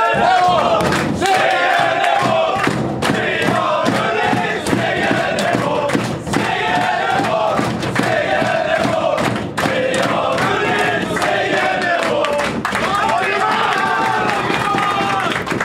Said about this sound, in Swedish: Ja, kan vi dra då lite segersång nu då? Ja, såklart. Jag hänger med in i omklädningsrummet här. Ja, nu kör vi.